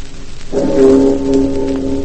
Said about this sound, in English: The discordant bong of our little Liberty Bell on D-Day.